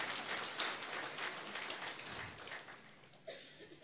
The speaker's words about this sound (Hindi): तो आप सभी कौन हैं, तो अपने लिए ताली बजा लीजिए।